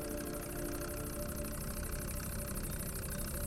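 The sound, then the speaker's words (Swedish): A tractor's diesel engine runs steadily throughout, a low, even rumble with a faint rhythmic throb and a higher mechanical hum on top, with no voices present. “Jag var ju fullständigt livrädd när vi gav oss iväg i traktorn.”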